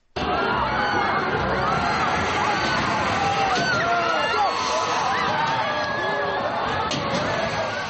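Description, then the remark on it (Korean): Riders on a drop tower tens of meters high at Kaeson Youth Park in Moranbong district, Pyongyang, scream and cheer as it plunges, in a steady, dense wash, their overlapping high cries blending with surrounding music and a loud, constant crowd roar for the full length. “기구 안에선 비명과 환호가 함께 터져나오지만 주변의 음악 소리와 수많은 인파의 함성에 금세 묻혀버립니다.”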